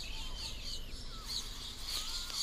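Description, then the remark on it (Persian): Flying squirrels chirp and call in quick, high-pitched bursts as a warning, several overlapping, over a steady faint background hiss, with no one speaking. “همسایه سنجاب‌های پرنده دارن پر سر و صدا تر میشن.”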